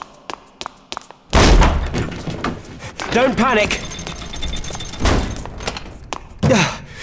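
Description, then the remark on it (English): A heavy self-locking door slams shut with a single loud thud after a few faint clicks, then a man speaks excitedly over light rattling and knocking. “Self-locking door, not the best start.”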